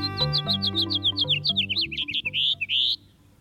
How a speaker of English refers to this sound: A typical house finch song has a raspy edge and tumbles forward in a jumbled series of notes. Especially during breeding season, the song has a sharp, buzzy note, like at the end of this one.